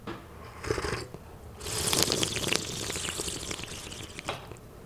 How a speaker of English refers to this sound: So what we want to do is kind of divide this into three slurps. And slurping is extremely important. It's not impolite, it's actually polite. What we want to do is aerating it. It's almost like having a wine tasting. I will demonstrate it first.